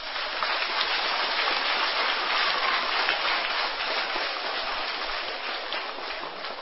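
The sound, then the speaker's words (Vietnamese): An audience at a talk program applauds steadily, a dense, crackling wash of many hands clapping that holds at an even, fairly loud level for several seconds with no voices over it. “Nếu tất cả chúng ta thấy rất rõ việc yêu dội, yêu cuồng dẫn đến nỗi khổ niềm đau và cần phải tránh và quyết tâm tránh được, thì hãy dành một tràng vỗ tay thật lớn.”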